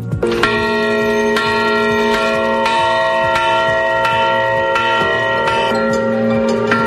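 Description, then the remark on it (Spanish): The three newly blessed bells of the parish church of Nuestra Señora del Carmen in Agua Dulce ring out steadily, several bright strikes overlapping with long, shimmering tones that hang in the air. The pealing is loud and continuous, with no voices. “Historia, porque la parroquia de Nuestra Señora del Carmen de Agua Dulce vivía en la mañana del pasado sábado 16 de enero la alegría de la bendición de sus tres nuevas campanas para el campanario que se está construyendo”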